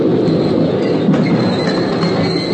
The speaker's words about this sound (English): As the train moved into the station, I rolled and pinned myself tight onto the concrete ledge as the wheels came to a stop, now 3 inches from my face.